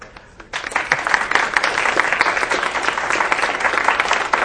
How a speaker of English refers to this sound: But if we can give him a round of applause, that'd be great.